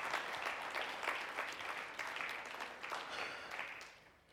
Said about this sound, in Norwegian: La oss gi Jesus en applaus alle sammen.